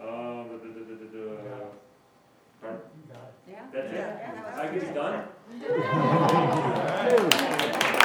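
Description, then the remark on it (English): A voice speaks, then audience applause swells in the final seconds, a dense wash of clapping mixed with crowd chatter that grows louder toward the end. “I don't care about applause, I just want to sit down and...”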